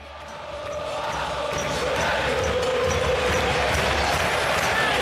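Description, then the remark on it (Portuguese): A huge crowd of River Plate football fans sings a chant together in a stadium, a dense, loud, continuous roar of voices that swells during the first second and then holds steady. “E agora vamos escutar como que a torcida do River Plate adaptou. Provavelmente eles vão cantar lá no estádio Monumental.”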